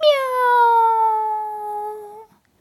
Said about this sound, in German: Die gefleckte Katze sitzt auf dem Baum und schaut herunter zu Frau Usebuse. Die gefleckte Katze öffnet ihr Maul. Miau! Und noch einmal.